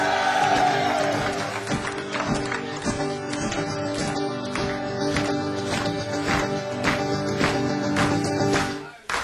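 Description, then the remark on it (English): A crowd claps hands and stamps feet in a steady rhythm along with loud, sustained live band music with the guitar turned up, the sharp beats punching through the band throughout. “So yeah, clapping your hands and things and stamping your feet and turning the guitar up in the monitor so it'll be really loud.”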